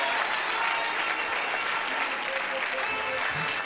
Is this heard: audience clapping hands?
yes